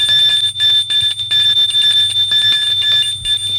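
doorbell ringing

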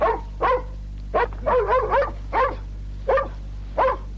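dog barking

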